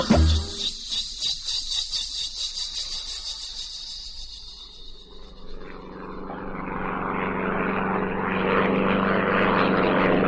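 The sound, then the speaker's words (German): A propeller plane drones overhead, its steady engine hum swelling and shifting in pitch as it passes, with a high insect-like buzz layered on top early on. No one speaks. “Siehst du den Aeroplan?”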